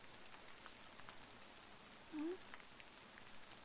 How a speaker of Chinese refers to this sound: 如果顶着雨跑回去的话，可能会 有点来不及。没想到今晚会突然下雨。